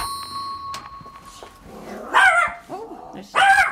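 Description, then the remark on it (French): A dog lets out two loud, gruff barks about a second apart, after a stretch of quieter background noise with a faint steady hum. “Bonjour le chien. Viens ici, viens ici.”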